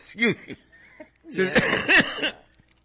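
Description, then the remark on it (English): Someone coughs in short, harsh bursts: a brief pair first, then a longer rough fit of several coughs after a pause, with no talking. “Drink some water. Thank you. You need a cough drop.”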